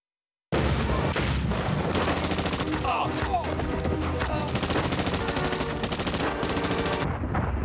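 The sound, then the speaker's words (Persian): Sustained, dense bursts of machine gun fire echo through the foothills, rattling on without pause for several seconds, loud, with rapid repeated shots blending into a continuous roar before ending abruptly. “صدای رگبار گلوله در کوه‌پایه ها پیچید.”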